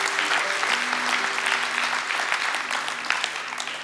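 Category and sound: crowd, audience applauding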